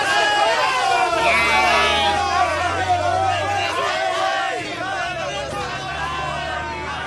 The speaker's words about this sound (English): The children are happy now, feeling safe and secure as the bus takes off back down the road to the cheers from the locals.